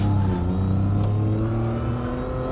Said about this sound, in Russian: Позвольте, а куда уезжает ваш автомобиль?